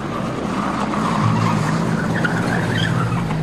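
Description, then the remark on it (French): A car in which the SS take away Léon Blum and Jeanne Blum on 3 April 1945 revs and pulls away hurriedly from Buchenwald camp, tires skidding and squealing, a loud, continuous engine roar lasting the whole stretch, with no voices. “Ce soir-là, lui et Jeanne Blum sont embarqués par les SS dans une voiture.”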